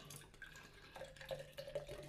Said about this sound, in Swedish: Häll upp den lite aggressivt så det skummar så det är gott också.